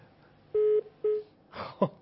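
Two steady electronic phone-line tones sound in sequence as another phone call, from a caller in Khuzestan, comes in: a longer beep then a shorter one, followed by a brief burst of line noise and a click as the call connects.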